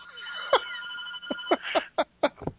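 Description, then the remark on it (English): A telephone rings with a call from Glenn Sather, a sustained, buzzy tone broken by a rapid series of about seven sharp, evenly spaced bursts. The sound is thin and band-limited, with no one talking. “You might want to get that. Yeah. He's ringing in.”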